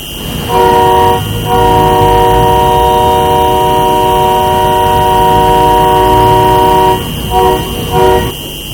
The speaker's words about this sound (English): Dozens of tractors and pickup trucks roll into Toronto's downtown Friday afternoon. They plan to hold a protest at the weekend against mandatory COVID vaccines for cross-border truckers.